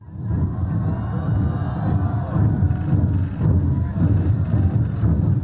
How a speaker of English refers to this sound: Ceremonial drummers welcoming the Chinese leader as he walked down the steps of his plane in the Vietnamese capital, Hanoi.